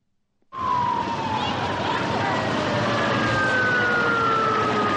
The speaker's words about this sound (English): The fears proved unfounded, but in Thailand, panicky crowds fled inland to the sound of sirens,